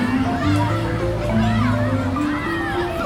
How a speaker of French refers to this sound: Comment ça, des enfants qui crient dans un musée, mais quel scandale !